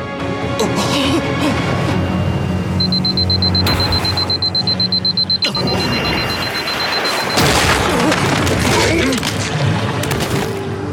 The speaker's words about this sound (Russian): Нет, не труп, а часы. Он среагировал на сигнал часов. Звук! Он атакует, ориентируясь на звук!